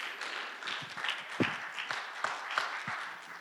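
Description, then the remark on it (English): An audience at a Sunday morning church gathering applauds steadily, many hands clapping together in a dense, continuous patter with a few sharper claps standing out, moderately loud and without any talking over it. “I like clapping.”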